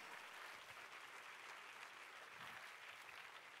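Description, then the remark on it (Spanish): An audience breaks into steady, sustained applause, a dense wash of many hands clapping at an even, fairly loud level throughout, with no clear voices standing out. “Si ese es el aplauso.”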